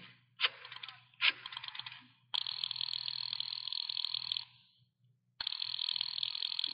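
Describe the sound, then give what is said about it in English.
A telephone being dialed to phone Sir William Brent: two short mechanical clicks, then two long, steady, buzzing whirs like a rotary dial spinning back, separated by a brief silence, with a low hum underneath. “I decided to phone him.”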